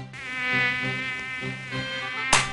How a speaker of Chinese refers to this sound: 天哪，最近天气变好热，蚊子也变很多，一不注意手脚就被蚊子咬了。